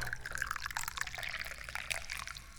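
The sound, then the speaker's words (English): Tea streams steadily into a cup, a bright continuous trickle with a faint rising gurgle as it fills, heard on its own without any talking. “We're gonna find out, and we're gonna find out right after I pour some tea.”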